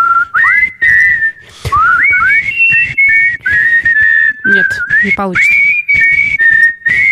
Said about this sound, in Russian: Ну, свистите тоже.